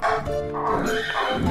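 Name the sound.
horse whinnying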